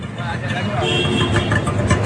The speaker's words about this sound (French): Ça, c'est leur calme, hein, les sons qu'on entend, là, les klaxons, les tchouk-tchouk, les moteurs, tout le bazar. Ça, c'est vraiment l'heure la plus calme de la journée. Voilà, on est à Bhavnagar, vous avez compris